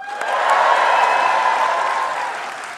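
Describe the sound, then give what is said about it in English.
An audience cheers and hollers to vote between kitty litter and toilet paper, a sustained, loud burst of mixed voices. High whoops ride over a broad wash of noise that swells and then slowly tapers off. “So make noise for what you think is going to be more valuable.”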